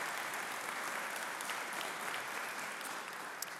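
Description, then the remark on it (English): An audience claps steadily for a 5-year-old's drawing, a dense wash of overlapping handclaps at an even loudness that carries through the whole stretch without a break and with no voices over it. “Yeah, clap for that.”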